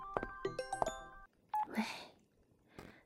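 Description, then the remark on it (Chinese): A quick run of telephone keypad tones as a phone call connects, several short beeps in close succession, followed by a single brief tone and a soft crackling burst, heard alone without any talking. “我去接个电话啊”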